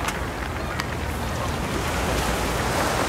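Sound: river water lapping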